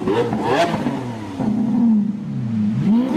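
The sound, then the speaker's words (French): A car engine revs loudly, its pitch climbing and dipping in a few surges as it accelerates, with no voices over it. “il aimait beaucoup les voitures allemandes, les bonnes grosses berlines allemandes, et il adorait rouler vite à toute blinde sur les autoroutes allemandes”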